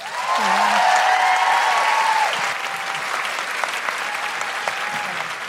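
A large audience in Canberra bursts into sustained applause for a speaker, dense clapping, loudest at first and easing slightly while continuing steadily, with a few cheers and whistles near the start.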